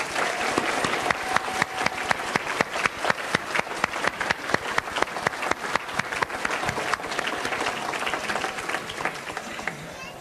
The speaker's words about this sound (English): It's my privilege to ask our emeritus faculty and staff to please stand. I know you're throughout the audience. Please stand. And let's give them a big round of applause.